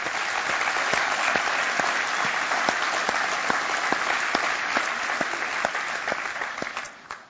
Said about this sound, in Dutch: En ik zou zeggen, joh, zullen we ze allereerst, niemand wordt zendeling vanwege het applaus in de gemeente. Maar zullen ze wel met een applaus even een hart onder de riem steken, gewoon in wat ze doen.